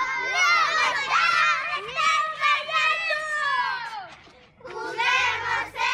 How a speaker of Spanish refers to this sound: El audio que he escogido es este de niños jugando en la calle y el motivo es que me deja muy buenos recuerdos de mi infancia y también un poco de lo que es la tranquilidad de vivir en una zona rural.